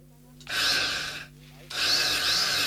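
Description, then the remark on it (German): An electric drill bores in two loud, gritty bursts, the first lasting under a second, then a short pause before a longer second run, with no voices. “Ausgerüstet mit einer Bohrmaschine, die in der Lage ist, auch dickste behördliche Betonwände des Schweigens zu durchbohren, begab sich unser Reporter nach Aarau.”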